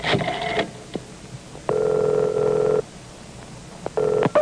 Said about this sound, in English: Immediately, the commissioner's attractive secretary picks up the special yellow phone on her distressed oak desk and makes contact with the white-winged warrior.